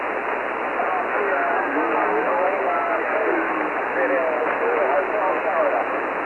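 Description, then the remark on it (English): A hiss of band-limited shortwave static fills the whole stretch, with several faint, overlapping amateur radio stations calling through the noise, hard to make out. “I hear some stations calling.”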